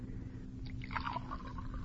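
Water pours briefly into a cup or glass for a feverish patient to drink, a soft trickling splash rising in pitch over a low steady hum, fairly quiet.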